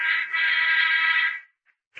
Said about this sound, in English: Until shortly before noon, the sound of the inter-office phone arouses him.